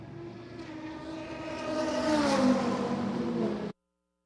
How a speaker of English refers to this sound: There we go. He gets it fired. Come on, knock it into first. Knock it into first. Engine revs. And there goes the 01 crawling out of the pit box as well.